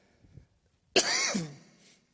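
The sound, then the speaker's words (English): A single harsh cough bursts out suddenly, trailing into a raspy throat-clearing rumble that fades over about a second, with no talking around it. “One of these days there's going to be a sermon. I'm not going to cough.”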